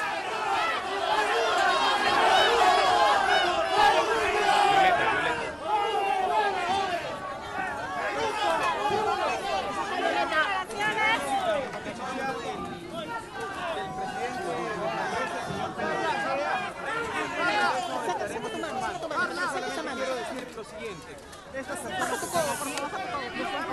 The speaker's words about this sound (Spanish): A ver, ahí va llegando, le comienzan a gritar la gente ahí.